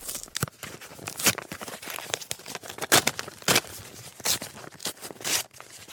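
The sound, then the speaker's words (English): Paper being handled: a series of crisp tearing and crinkling rustles as an envelope is ripped open and a letter unfolded, with short sharp bursts and brief pauses, no voices. “Just me in this envelope tonight, though, huh?”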